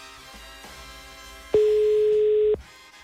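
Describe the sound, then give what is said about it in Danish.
A single steady electronic ringback tone of a phone call sounds for about a second, loud over a faint background hum, then cuts off abruptly. “Så nu ringer den.”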